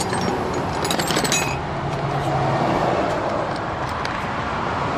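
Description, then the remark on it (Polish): Light metallic jangling and clinking of a bunch of keys being rummaged through in search of key number ten, busiest in the first second and a half, over a steady hissing rumble of background noise that continues to the end. “Będzie odgłos szukającego klucza.”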